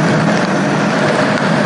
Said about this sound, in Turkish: Tam önümüzde araba duruyor. Dönüş yapacak.